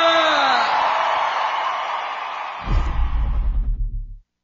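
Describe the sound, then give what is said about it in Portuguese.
A large crowd cheers and claps loudly in a dense, continuous roar, with a whoop rising early on; partway through, low rhythmic thumps come in beneath it. “Palmas, palmas, palmas!”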